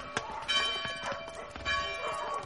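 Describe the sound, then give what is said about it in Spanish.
A church bell rings for 7:30 mass with a sustained, resonant tone full of overlapping harmonics, struck repeatedly at a moderate pace, with faint background activity and occasional thuds beneath it. “Ya están llamando a misa de 7:30.”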